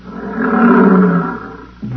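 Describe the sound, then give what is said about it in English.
A lion's deep roar swells and rumbles for nearly two seconds, loud and low-pitched, then another roar begins just as it fades. The lions are about 15 feet away. “Oh, here come the lions.”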